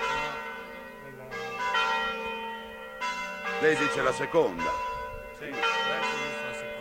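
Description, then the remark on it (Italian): A large church bell rings, struck several times with long, shimmering tones that hang and fade between strikes, while people talk briefly over the resonance. “E uno sarà dell'Ottocento, forse chi è dell'Ottocento sarà la campana grossa, no?”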